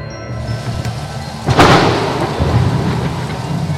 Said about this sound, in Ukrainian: Раптово здійнялася страшна буря. Вдарила блискавка і звергла з високої гори ідолів Армаза, Гаці і Гаїма.